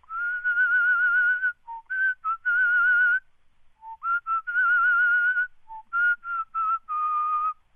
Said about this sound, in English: So, Larry David, would you like to whistle us out?